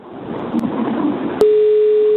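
After about a second of muffled noise, a steady, fairly loud telephone ringing tone begins on an outgoing call placed by Radio Popolare to a listener and holds as one unbroken pure note to the end.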